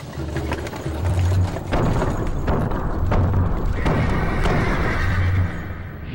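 horse neighing

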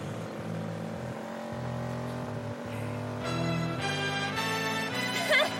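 car engine revving

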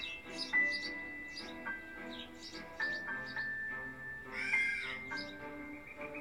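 birds chirping

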